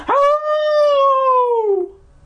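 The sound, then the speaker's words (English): A single long, mournful howl holds a steady pitch for nearly two seconds, then slides downward and fades out. No one speaks. “I had just about drifted off to sleep when the howls began.”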